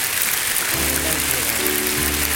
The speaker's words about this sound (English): Seal what God has taught us, would you? Just with a clap offering.